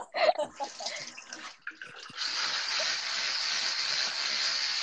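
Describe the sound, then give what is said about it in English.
Harsh, uneven scrubbing strokes of teeth being brushed, then a loud, steady, hissing rush that carries on without a break, like running water. “I'm brushing my teeth.”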